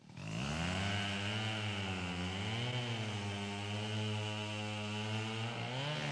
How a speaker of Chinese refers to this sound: 有一天，伐木工人在树林里伐木，电锯切着树皮，木头屑儿到处飞溅。狮子在森林里睡觉，被电锯的声音吵醒了。